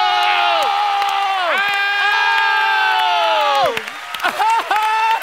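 A loud crowd cheers after a hip hop theater piece, in sustained whooping cries that swoop downward in pitch, breaking off and rising again several times, with little sign of clapping beneath.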